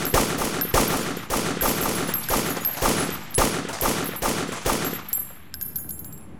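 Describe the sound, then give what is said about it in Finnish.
A rapid series of loud, sharp assault rifle shots as a conscript empties a full magazine into the sky during military shooting practice, firing in steady succession for about five seconds, then stopping, leaving faint ringing and echoes. No one speaks. “Mä ammun nää kaikki vaan taivaalle. Ja siinä sen enempää miettimättä pistin koko lippaan menemään.”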